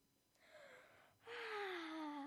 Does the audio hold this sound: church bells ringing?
no